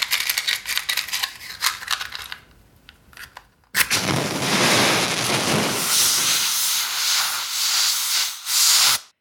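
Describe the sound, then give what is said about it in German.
A loud, sustained hiss of steam bursts in after a few seconds of crackling and clicking as a fire is extinguished, holding steady before cutting off abruptly. No one speaks. “So, das Feuer ist gelöscht.”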